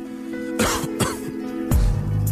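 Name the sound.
coughing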